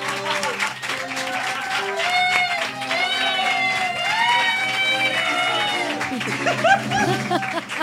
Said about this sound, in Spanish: así que un aplauso para el único, el inigualable